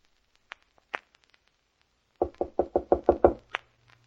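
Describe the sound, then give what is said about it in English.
A few faint taps, then a rapid series of about seven loud, heavy knocks on a door, pounding in a quick urgent rhythm before stopping. No one speaks. “Mary, are you all right? Open the door”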